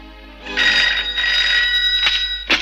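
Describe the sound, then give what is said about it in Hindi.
A telephone rings with a bright electronic trill, two sustained bursts close together, followed by short clicks near the end. The ringing is fairly loud, with no one talking over it. “hello sir, अच्छा हुआ आपका फोन आ गया”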